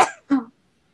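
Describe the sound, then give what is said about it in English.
A single sneeze, a sharp breathy burst followed by a short voiced second part, over in about half a second, then silence. “Bless you.”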